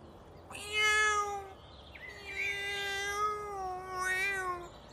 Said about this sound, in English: Oh dear! My cat is in the tree and it can't get down. It's going to fall.